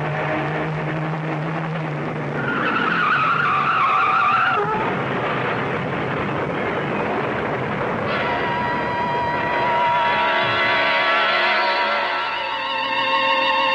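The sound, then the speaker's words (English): A car swerves off the road to avoid a truck and skids hard with a loud, sustained tire squeal that rises and wavers, followed by a rough rumbling slide and another long screech, intense throughout. “A truck. Turn the wheel. Go off the road.”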